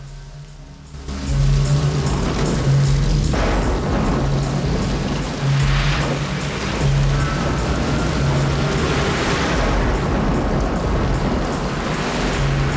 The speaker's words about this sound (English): A convoy of cars pulls out of Jericho.